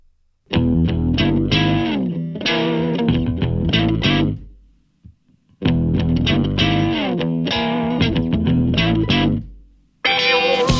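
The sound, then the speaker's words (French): A distorted electric guitar riff rides over a driving bass and drum beat, loud and steady, playing in two bursts separated by a short pause before the music kicks back in. “c'est un riff de guitare qui est posé sur un beat basse-batterie redoutable.”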